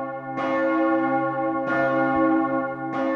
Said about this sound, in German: Erfurt, Sonntagvormittag, kurz vor 11. Die große Glocke des Doms ruft nicht nur zum Gottesdienst, sondern erinnert auch an den Amoklauf am Erfurter Gutenberg-Gymnasium vor 18 Jahren.